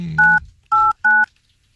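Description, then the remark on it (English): Three short touch-tone beeps from a phone keypad as a phone number is dialed to call someone live on air on the Mike Calda show, evenly spaced and loud, each a steady dual-pitch electronic tone with a faint rumble under the first. “He better answer. I'm giving his phone number up.”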